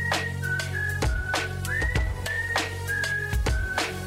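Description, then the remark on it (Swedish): A bright whistled melody of short held notes and gliding pitches runs over a steady beat with punchy drum hits and bass, part of a music track. “Du har hört den förut så du visslar med mig ba.”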